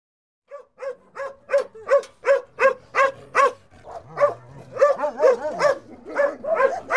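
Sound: dog barking and whimpering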